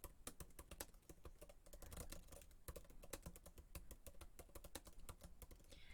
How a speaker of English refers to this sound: Start typing. You have 15 minutes.